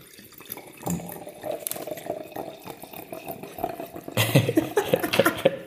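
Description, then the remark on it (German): Liquid gurgles and splashes as wine is poured into a Lillet glass, starting as a soft trickle and then turning into a louder, bubbling glug with bright clinking tones toward the end. “Das ist mein Lieblingsgeräusch. Glück, Glück, Glück, Glück, Glück, Glück.”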